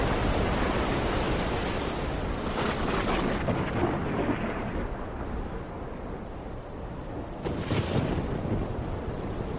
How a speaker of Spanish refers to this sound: Al principio de la travesía disfrutan de un gran tiempo, un buen tiempo para navegar, pero pasados unos días, una fuerte tormenta hace acto de presencia.